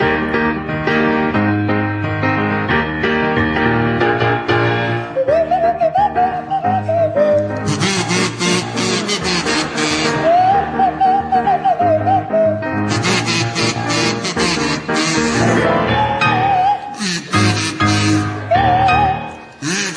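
A kazoo played by Jeremy Hardy buzzes out a bouncy tune alongside a swanee whistle played by Tim Brooke-Taylor that slides up and down in pitch, backed by a steady piano accompaniment, loud with no talking.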